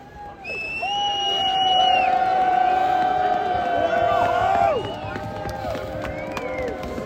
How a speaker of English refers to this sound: I'm going to let you listen to this. I'm just going to let you listen to all this, all these cheers as the players head down to the dugout, literally the dugout.